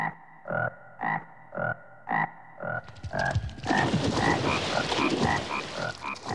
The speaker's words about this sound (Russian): А по ночам они начали пронзительно квакать. Кваканье всех лягушек сливалось и превращалось, как казалось маленьким коротышкам, в какой-то жуткий скрежет.